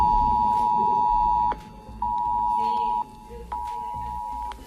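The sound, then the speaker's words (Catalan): A mobile phone emergency alert, sent by the authorities to the population of the Balearic Islands during torrential rain, blares a loud, steady high-pitched tone in three long blasts separated by brief pauses, over a low rumble of background noise. “Aquesta és alerta ensordidora.”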